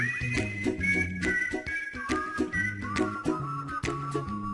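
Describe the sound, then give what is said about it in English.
A whistled melody rides clearly on top of a played song, its bright tune moving in steady phrases over bass, percussion and backing vocals, with no talking. “If that ain't a whistle, then I don't want to hear a song that has one.”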